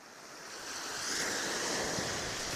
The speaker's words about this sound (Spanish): ¡Llegamos! ¡Mira qué grande el mar!